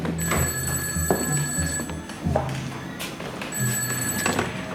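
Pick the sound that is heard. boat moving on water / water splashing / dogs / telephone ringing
telephone ringing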